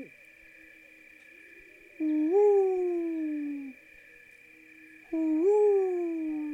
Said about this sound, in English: Great horned owl. I want you to think about the great horned owl. Get a picture of it in your head.